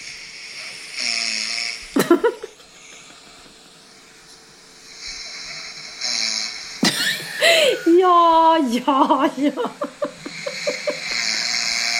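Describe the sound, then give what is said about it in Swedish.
A person snoring on a sofa with a face mask on while a film plays in the evening: two loud, rasping snorts several seconds apart over a steady hiss, then a longer, throaty, voiced rumble that wavers and fades. “För att i många år har du och jag diskuterat om du snarkar eller inte.”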